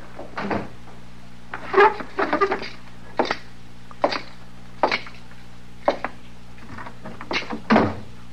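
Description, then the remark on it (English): The door into the back is handled and shut with a series of wooden clunks and rattles, spaced irregularly over several seconds against a low steady hum, with no one speaking. “Oh, say, you want me to close the door into the back?”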